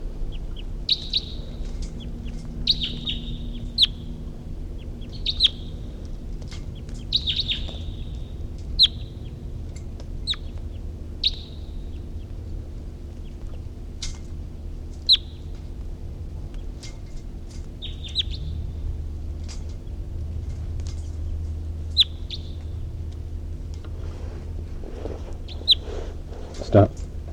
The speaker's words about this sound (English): Recording, it's 9:55 and a wild bird was calling from the distance, and the captives are calling, and then there was even a song phrase from 3:48.